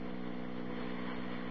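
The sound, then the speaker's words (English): A diesel locomotive engine drones steadily, a low humming rumble with a constant pitch and even loudness throughout, with no voices over it. “I think the other side are diesels.”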